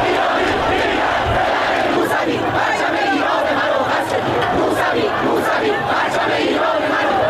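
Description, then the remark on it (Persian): A large protest crowd from the civil protests of the year 88 (Iranian calendar) chants and shouts 'give me back my vote' together in a steady, dense roar, voices overlapping continuously at a loud, constant level with occasional sharper cries rising above the mass. “سال 88 سال اعتراض مدنی بود، راهپیمایی سکوت و فریاد رأی منو پس بده، سالی که به سال بلوغ سیاسی جامعه مشهور شد.”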